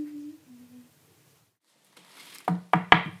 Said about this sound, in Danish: Stemmen kom fra et lille oplyst hus. Døren stod på klem, og gæsterne bankede forsigtigt på.